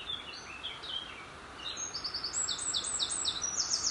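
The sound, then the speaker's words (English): Dense birdsong fills the air in a woodland valley, with several birds chirping and trilling in rapid high-pitched bursts, growing busier and louder over the steady rushing roar of a beck (stream) below. “The bird song around me here is absolutely incredible. It's quite deafening, actually.”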